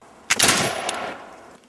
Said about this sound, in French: Un grenadier de la couronne britannique fait une démonstration de tir avec son fusil à silex.